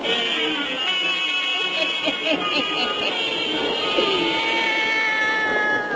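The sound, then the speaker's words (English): A black cat named Satan, belonging to old Nancy, Witch of Salem, meows in a few drawn-out, wavering yowls, moderately loud, over a steady background hiss with no one talking. “Join old Nancy, Witch of Salem, and Satan, her wise black cat.”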